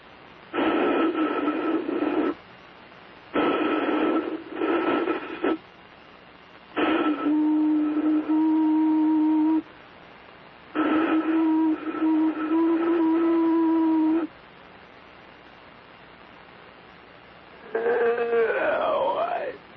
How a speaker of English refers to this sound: Here's me blowing into a can.